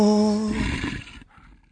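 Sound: wolf growl sound effect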